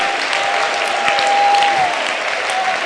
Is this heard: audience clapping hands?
yes